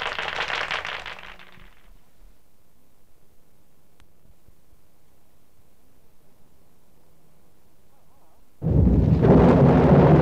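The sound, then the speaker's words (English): A loud wash of rain and rumbling thunder fades into a long near-silent lull, then a sudden heavy burst of storm noise roars back in at full strength. “I'm just out here in the rain, flying my kite, trying to discover electricity, whatever that is.”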